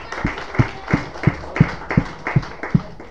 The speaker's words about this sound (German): Nochmal Applaus für ihn, ja.